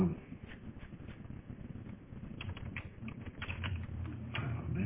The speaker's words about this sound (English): Typing too fast. Gotta fix meeting the devil page too. Just a bunch of typos.